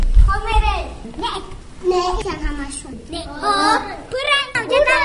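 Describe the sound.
Young children chatter and call out in high, lively voices while playing at kindergarten No. 34 in central Dushanbe, their overlapping babble rising and falling continuously.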